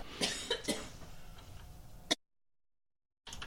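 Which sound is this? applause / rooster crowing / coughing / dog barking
coughing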